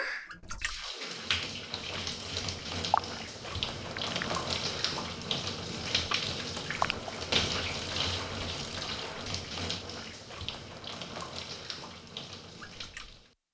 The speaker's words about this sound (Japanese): はい、じゃあシャワーかけますよ。